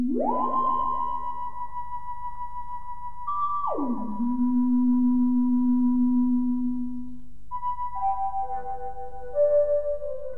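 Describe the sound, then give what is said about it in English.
A wobulator melody of manually operated swoops and individual notes cut together sweeps up, holds, then plunges and sustains low before a run of stepped higher notes. Overlaid elements are smeared with delay and echo over a steady low hum. “Then there's the melody sound, which is all the manually operated swoops and individual notes off the wobulator cut together.”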